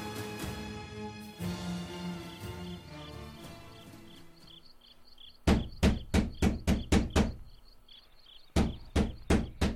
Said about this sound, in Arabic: من الطارق؟ يا أبا الأديان، هلم وافتح الباب.